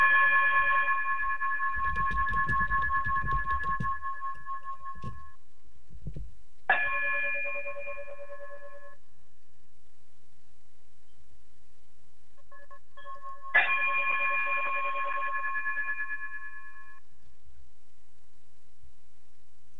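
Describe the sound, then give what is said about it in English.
A chime played to close a show rings out three times at slow, even intervals, each bright metallic strike sustaining and fading before the next. There is a low rumble early on and no talking. “if you would, chime us out, and we'll talk to you all soon.”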